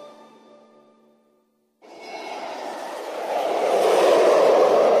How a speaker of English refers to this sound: Makes me want to fly away. That's the Hawaiian Airlines jet to Portland, San Diego.